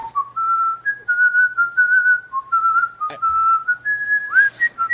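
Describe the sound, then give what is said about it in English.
A person whistles a continuous, wandering melody, the pure tone sliding between notes with only brief breaths, and a single sharp tap partway through. “It's a long time to whistle.”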